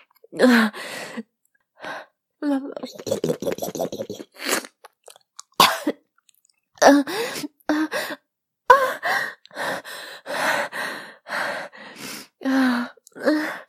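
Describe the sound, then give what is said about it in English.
A loud run of ragged gasps for air, broken by short coughs and a few sharp inhales, coming in uneven bursts with brief pauses between them, no spoken words. “I'm gasping for air as your hot cum drips down my chin and my neck.”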